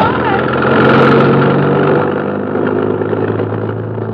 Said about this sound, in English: There's a truck parked outside the stage door. Hey, it's coming straight down the alley. At us!